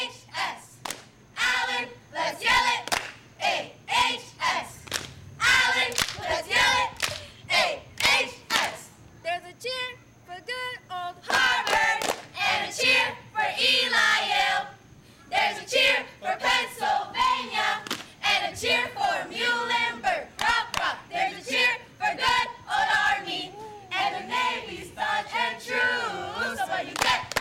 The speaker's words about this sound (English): cheer for Allentown High. There's a cheer for Canaries and Blue. Fight!